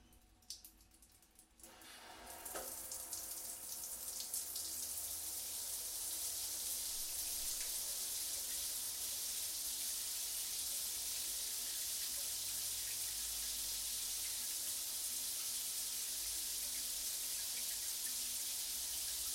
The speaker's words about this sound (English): And let's turn the shower on in a moment and find ourselves relaxing deeply in the shower.